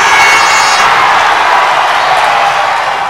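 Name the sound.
audience applause and cheering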